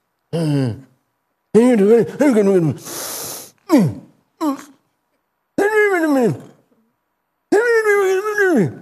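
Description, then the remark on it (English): A person imitates a monkey straining to pull its hand out after grabbing bananas, with a series of strained, wailing vocal grunts and moans, broken by a harsh breathy hiss and short gasps, loud. “And he'll sit there, and he will try, and he'll be pulling his hand out. I can't get my hand out. And he'll go like this.”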